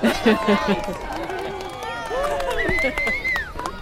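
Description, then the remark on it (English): A crowd at a zoo murmurs and chatters outdoors while watching elephants toss toys, many overlapping voices with a few higher exclamations rising above the steady babble. “The crowd is charmed, and the students are proud of their work.”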